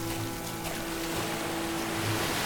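A steady wash of waves and churning water fills the whole moment, loud, with a low steady hum underneath and faint sloshing as a man crosses the waves to a boat.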